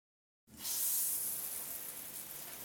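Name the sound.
shower water spraying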